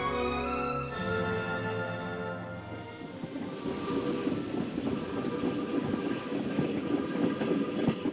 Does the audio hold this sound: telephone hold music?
no